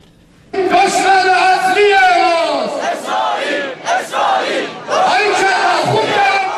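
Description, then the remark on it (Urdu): A large crowd at a rally in Palestine Square, Tehran, chants political slogans in unison, including "Death to America" and "Death to Israel": loud rhythmic shouted phrases with brief dips between them, the massed voices swelling and repeating. “Tehran کا فلسطین square امریکہ مردہ باد اور اسرائیل مردہ باد کے نعروں سے گونج اٹھا.”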